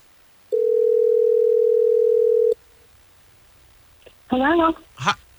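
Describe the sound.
A loud, steady phone dial tone hums for about two seconds as a Hot 101.5 radio show places a call, and cuts off abruptly; after a short quiet pause, a voice briefly speaks.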